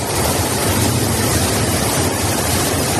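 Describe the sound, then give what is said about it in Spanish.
A steady, dense roar of heavy rain, storms and rushing floodwater in streets turned into rivers in the province of Tarragona, Spain, during a DANA storm, loud and unbroken, with no voices and no pauses in the constant wash of noise. “Es el sonido de las últimas horas, lluvias, tormentas, graves inundaciones, calles convertidas en ríos.”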